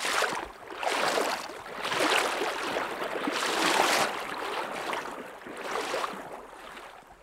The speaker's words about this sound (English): we slosh across to the other side. The rushing water squeezes the waders tight and cold against my legs, and I have to lean into the current to avoid toppling over.